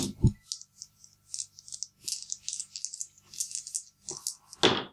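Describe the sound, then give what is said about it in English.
Ambience of a wet inner stone courtyard after recent rain, inside a semicircular, horseshoe-shaped stone structure reached by steps: a steady patter of crisp, rattling drips and trickles, with a low thud at the start and a louder bump at the end. No voices. “But as you step into this place, it's kind of like an inner plaza or courtyard. And it sounds weird.”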